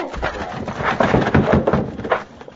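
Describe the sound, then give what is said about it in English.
A locked wooden door is forced open: several heavy, irregular thumps and cracking impacts pile up over a couple of seconds, loud and rough, with no voices. “It's locked. We'll have to break it down.”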